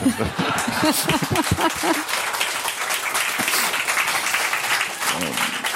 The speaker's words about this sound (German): Also, eigentlich hat es jetzt noch Applaus erwartet.